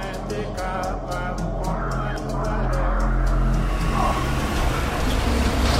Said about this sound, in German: Ein Auto rumpelt über die löchrige Schotterstraße. Mitten in der Hauptstadt, die das leergeräumte Haus von dem überfüllten Camp trennt.